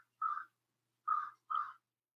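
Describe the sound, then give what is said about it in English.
A crow caws three times outside an open window across from farmland, a single harsh call followed after a pause by two quick ones, clear and moderately loud with no other sounds around. “Like, I like hearing, I love hearing a crow.”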